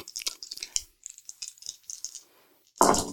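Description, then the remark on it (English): Dice rattle and clatter in a quick burst of small hard clicks, spread over a few seconds and ending in a louder, denser rattle as they tumble to a stop. No one speaks. “You, that is too much words to say, so you roll your dice.”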